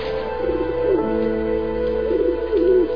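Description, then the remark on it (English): Pigeons or doves coo in soft, warbling bursts in a park, a few throaty calls rising and falling over a steady low hum of background ambience, with no one talking. “Sometimes after work, I go to the park and feed the birds.”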